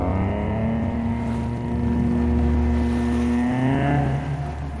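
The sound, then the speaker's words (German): A wooden whistle is blown: a steady, low, reedy tone holds for several seconds, rising slightly near the end, over a continuous rushing wash of waves and a deep rumble. “Arvid bläst in seine Holzpfeife. Ein eigenartiger Ton durchbricht das Rauschen der Wellen.”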